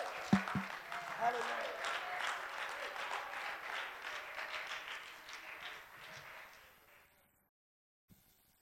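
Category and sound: crowd, audience clapping and cheering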